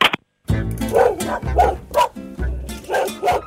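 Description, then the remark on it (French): A dog barks repeatedly, about six loud, sharp barks in a quick, uneven rhythm with short gaps, some sounding slightly whiny. “C'est marrant, là, parce qu'on voit en fait tout ce que les gens font, ils se promènent avec son chien.”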